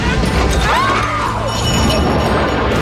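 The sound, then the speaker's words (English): A loud, sustained explosion of septic tank gas in front of a house, set off by Uncle Lewis at the very end of the movie, roars throughout: a dense rumbling blast with crashing, clattering debris and a few faint whistling tones sweeping up and down in the middle. “that's Uncle Lewis blowing up the septic tank gas in front of the house at the very end of the movie.”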